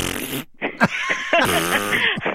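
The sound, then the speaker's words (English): A voice imitates a car's ABS pump running, as it sounds on most cars, a quick series of buzzy, sputtering bursts, fairly loud, lasting a couple of seconds with no other talk. “And I'm thinking it might be your ABS pump coming on.”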